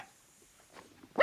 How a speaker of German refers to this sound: Das ist jetzt aber ein Hund. Das ist ein Hund, das ist der gute alte Zwergpudel.